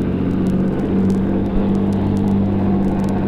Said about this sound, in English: Wait till the truck gets by.